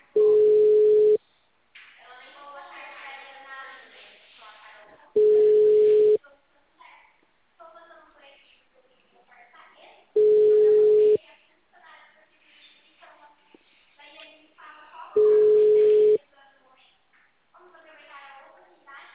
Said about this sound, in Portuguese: número está ocupado.